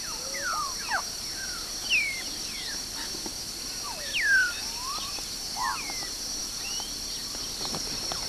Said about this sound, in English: These were parrots, great African grey parrots, 22 December, time 8:30. They were quite some distance from me as they flew over. This was a fairly large flock, looked like at least 15 to 20.